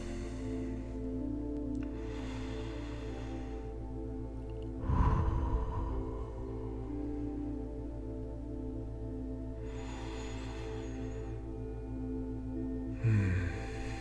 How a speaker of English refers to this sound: Try to bring your breathing in sync with mine. That's good. Deep breaths.